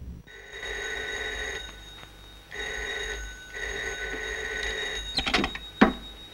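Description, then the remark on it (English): A telephone rings again after the caller redials, in three steady, fairly loud bursts with short gaps between them, followed by a brief clatter like a handset being picked up. “She puts the phone receiver back down with her face still buried in her pillow. The man redials immediately.”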